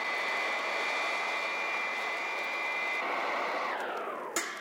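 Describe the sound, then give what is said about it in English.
A robot plane slows and hovers in the skies above a city at a rendezvous with an alien command ship, a steady, whining jet-like drone, loud, its high tone sliding lower near the end before a brief sharp click. “Robot plane slow to rendezvous with ship and hover. And Wonder Woman's plane soon makes contact with the alien craft.”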